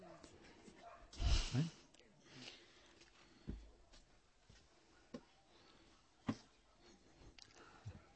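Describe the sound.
A dog gives one sharp, loud bark near the start, followed by scattered soft whimpers and snuffling sounds, with faint voices murmuring in the background.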